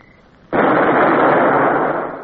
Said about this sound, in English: The gun crew sweated as they fired. The sound of the shots echoed off the hills.